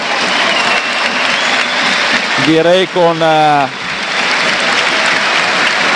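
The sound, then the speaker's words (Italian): A large stadium crowd applauds steadily as Parma's number 10, Bernabé, is substituted off for Hernani, a dense, continuous wash of clapping that fills the whole stretch, with a man's voice briefly speaking over it midway. “sonori applausi.”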